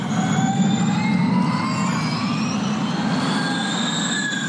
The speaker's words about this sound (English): The traditional sounds of Formula One racing are slowly giving way to the sounds of Formula E.